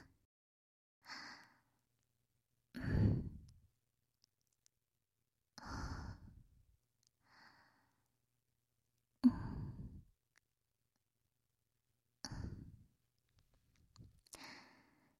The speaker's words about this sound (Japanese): お客さんって、こういう耳元での吐息とか、リップノイズが好きなんだよね。どう？ちゃんとうまくできてるかな？